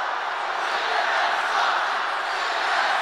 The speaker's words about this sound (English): To that, the crowd burst into cries of CNN sucks.